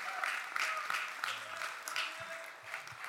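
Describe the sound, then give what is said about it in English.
A crowd claps steadily, a dense, continuous wash of applause, loud throughout, with a few faint voices mixed in underneath, given for a speaker about to deliver a message. “And would you give an applause for the message that to come?”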